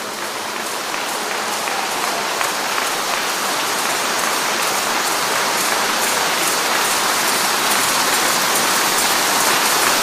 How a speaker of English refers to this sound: Let's give the Lord a big round of applause for all those who are going. Go ahead, clap for them. Clap very well, clap very well.